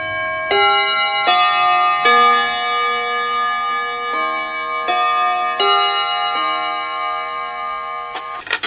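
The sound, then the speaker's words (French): A clock chime on Radio Bonheur marks noon with a melodic sequence of clear, bell-like notes, each struck tone ringing on and overlapping the next, loud, with no voices. “Bon appétit avec Radio Bonheur au carillon et sur les montres qui marchent, il est midi.”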